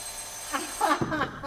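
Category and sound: signal or alarm, telephone ringing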